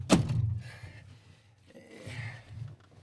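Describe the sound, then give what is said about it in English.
A van's doors are closed, one slamming shut with a solid, booming thunk, followed by muffled low rumbling and shuffling as something else shifts and settles. No one speaks. “So I will do that now and close up the doors.”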